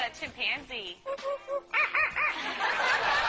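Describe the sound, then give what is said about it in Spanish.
A parrot named Einstein imitates a chimpanzee with a run of hooting, rising and falling calls that build into a rapid series of loud, shrill whoops and hoarse screeches. “El loro Einstein también sabe imitar a un chimpancé.”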